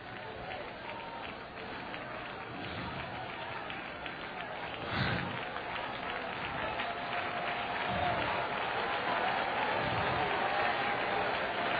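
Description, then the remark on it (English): An audience claps and shouts together in a dense, steady roar that fills the whole stretch, with occasional heavier thumps rising out of the crowd noise. “This clapping, this shouting, this dancing, these tambourines, these organs, these pianos, it's Jewish!”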